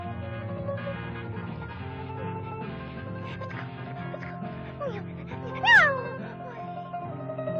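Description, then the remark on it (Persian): A single short, rising cat meow cuts through near the end, loud, over a steady bed of music or background tones. “سب کن ببینم گربه دوست، وایسا ببینم.”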